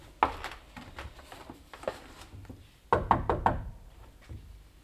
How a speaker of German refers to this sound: Sie meint, er wäre noch da. Klopfen wir nochmal. Offenbar doch schon weg.